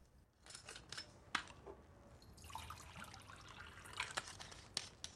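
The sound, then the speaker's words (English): Soft clinks of a glass and a small spirit bottle being handled in a kitchen, then a brief trickle of spirit poured into the glass, quiet, with a few sharp taps scattered around it. “She takes a small spirit bottle and a glass from a cupboard and pours herself a drink.”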